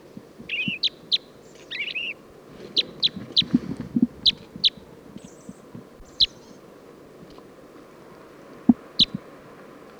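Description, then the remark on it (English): A male purple finch sings a lively, warbled song of quick high chirps and twittering notes, delivered in bursts over a low rumbling background with no talking. “Song of the purple finch.”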